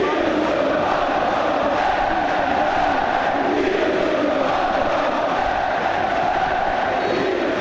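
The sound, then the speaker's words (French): A football crowd at the Beaujoire stadium in Nantes erupts at the referee's final whistle as fans invade the pitch, a loud, continuous roar of cheering and shouting that stays steady and dense from start to finish, with no talking heard above it. “Et là, on entend le coup de sifflet de l'arbitre. Et tout le monde envahit la pelouse de la Beaujoire.”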